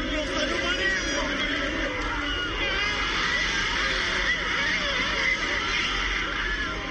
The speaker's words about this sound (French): Clameur assourdissante après 2 heures de silence et de stress pendant une finale très fermée contre les pharaons.